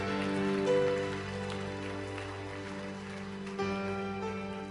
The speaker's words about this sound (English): Can we give a hand clap? Yeah.